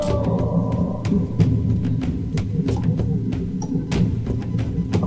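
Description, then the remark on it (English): A dense, steady machinery hum with a heavy low-end rumble fills a boiler room for the whole stretch, broken by frequent sharp clanks and ticks scattered irregularly throughout, with no voices. “We've walked downstairs to the boiler room. It's kind of noisy and hot.”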